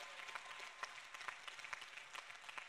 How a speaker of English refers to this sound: You know, we clap about things in church.